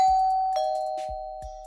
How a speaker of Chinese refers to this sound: 门铃响了，一定是哥哥你来了。